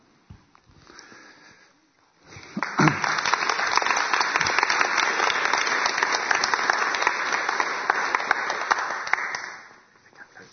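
A crowd breaks into sustained applause, many hands clapping in a dense, steady wash for several seconds before it fades out, preceded by a brief quiet moment of faint murmuring.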